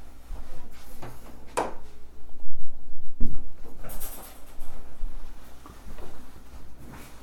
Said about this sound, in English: And as a result of that, excuse me, I'm going to close the door here.